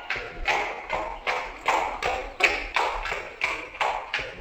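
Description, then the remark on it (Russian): The hooves of a horse named Veterok clop along at a steady walking pace, about a dozen evenly spaced, crisp hoof beats with no voices over them. “Теперь я пущу его шагом.”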